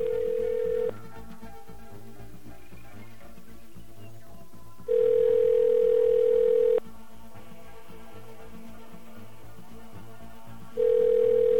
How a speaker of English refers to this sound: Can we get a dial tone? Okay, we got a dial tone.